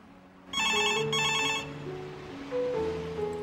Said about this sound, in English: The phone rings in the empty house.